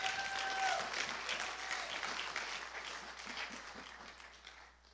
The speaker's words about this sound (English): Can you clap hands for Jesus?